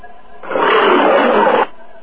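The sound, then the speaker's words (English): A wolf growls: a single loud, rough growling roar bursts in and holds steady for about a second before cutting off abruptly, with near silence on either side. “A wolf bit me.”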